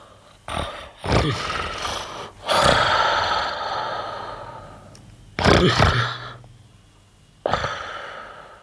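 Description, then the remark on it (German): A voice imitates a witch's loud, exaggerated snoring: several harsh snorting inhales, each trailing into a long raspy breath, repeating at irregular intervals. “Und die Hexe fing an zu schnarchen.”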